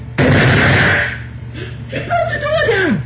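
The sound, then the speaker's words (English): A sudden loud crash as a door is forced open, with a harsh burst of noise that rings out for about a second, followed by strained vocal groans and whimpers with sliding pitch. “Let me in or I'll bust the door down! Here it goes!”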